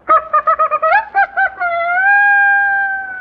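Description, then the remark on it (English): A saxophone imitates a rooster crowing: a run of about eight quick, clucking stuttered notes, then a loud, long held wail that bends slightly upward and sustains to the end. “the rooster.”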